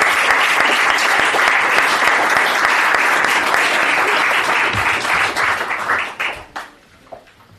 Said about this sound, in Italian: e social media marketing, che non c'è scritto nei credits ma è in squadra e assolutamente si merita non solo di essere menzionata ma direi anche un applauso, perché è una persona eccezionale.